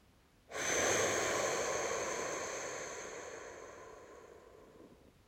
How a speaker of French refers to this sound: Puis je vous inviterai à recommencer une deuxième fois en activant toujours cette énergie au sein de votre visage. Diffusez cette énergie en expirant.